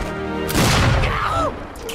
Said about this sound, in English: Okay, you think a few very painful explosions can stop me?